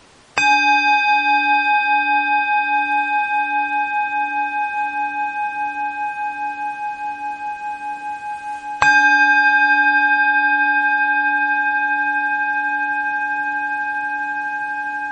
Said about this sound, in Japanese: この間のリトリートなんかだと、その鐘をね、非常に頻繁に使いますね。で例えばそれこそ、こういう法話があるじゃないですかね。でその法話の最中でも鐘が鳴るのね、まさに。